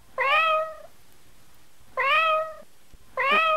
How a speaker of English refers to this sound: Was that your cat? My cat's choking on something. What did you feed it? I fed it nothing out of the ordinary. And it's making that noise on its own? Yeah.